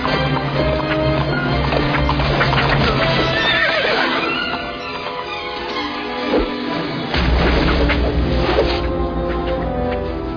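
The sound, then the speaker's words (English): A horse whinnies loudly amid a busy, chaotic scene, with hooves clopping and rumbling crashes in the background. “Get him! And don't hit my horse!”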